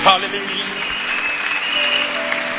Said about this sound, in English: Clap your hands for the Lord, everybody.